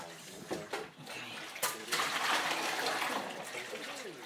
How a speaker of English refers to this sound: I'll wash these roughly and then I'm going to put some clean water in and wash them properly and get the worst of it off in the dirty water. Clean them properly.